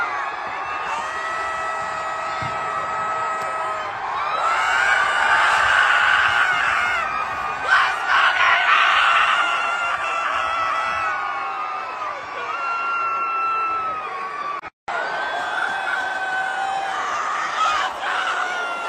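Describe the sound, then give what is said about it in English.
A large stadium crowd roars and cheers continuously right after the Chiefs won on Sunday night, with excited screams and shouts rising and falling over a steady wall of noise, briefly cutting out before resuming. “Had I been in the crowd, and a little champagne dropped on me in the midst of a celebration”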